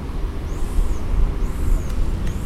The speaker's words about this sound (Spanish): Cuando los vehículos pasan a nuestro lado, como la moto de recién, llegan a 82 decibeles.